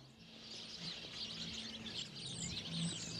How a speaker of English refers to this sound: A little nature preserve right here on the corner of 33rd and Greenmount in the way of one tree on the sidewalk full of birds. I like that. Now I know why you guys like this spot. It's a good tree, huh? Nice spot.